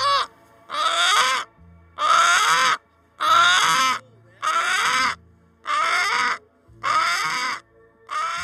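Chickens, Brahmas, Americanas and mixed breeds, clucking loudly at each other, a steady run of seven harsh, drawn-out calls spaced about a second apart, with nothing else heard between them.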